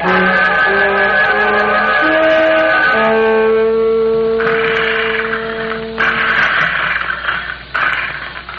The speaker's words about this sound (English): That must be him mowing the lawn.